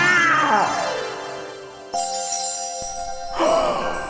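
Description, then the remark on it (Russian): A cat on a roof meows twice, a long drawn-out falling meow followed later by a shorter one, with a bright ringing, chime-like tone sustained in between. It is fairly loud, with no talking. “Кот залез на крышу.”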